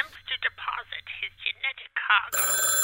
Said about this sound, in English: the phone is ringing